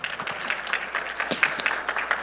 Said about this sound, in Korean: 박수까지 원한 건 아니었어요. 그냥 뭐 이런 거 있잖아요. 아, 이 정도면 돼요.